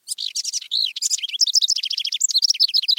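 house wren song

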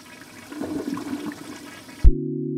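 toilet flushing

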